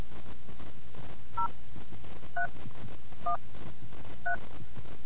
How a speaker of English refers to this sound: You must be calling from a touch-tone phone to participate in this survey. Please press 1 to continue. Please enter your 6-digit Gallup access code by pressing the corresponding keys on your phone. Please enter your number now.